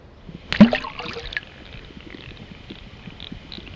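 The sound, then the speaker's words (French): A single pebble, thrown in on purpose, plops into water with a sharp splash, followed by a brief bubbling gurgle that fades into a soft, steady lapping of water. “On va essayer de jeter un caillou.”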